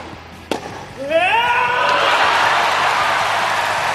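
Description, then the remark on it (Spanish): A sharp crack rings out, then tennis player Carlos Alcaraz lets out a loud, rising triumphant shout lasting about a second at a key moment of his Wimbledon match that put him into the semifinals, quickly swallowed by a swelling roar and applause from a large crowd. “El vendaval Carlos Alcaraz, simbolizado en el grito, en un momento clave del partido, que le ha metido en semifinales de Wimbledon.”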